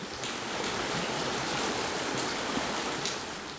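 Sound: flowing stream water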